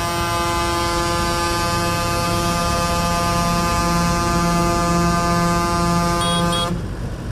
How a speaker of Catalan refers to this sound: Heu sentit, són el toc de botzina dels tractors en passar per davant de la fàbrica Agama, a Palma. Ho han volgut fer davant aquest símbol de la indústria lletera de Mallorca